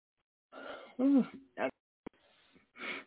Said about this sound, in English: I keep yawning. Oh boy, you know, I'm getting tired.